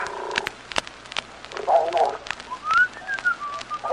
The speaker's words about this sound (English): Quit that whistling. Darn that boy, snores when he's asleep and whistles when he's awake.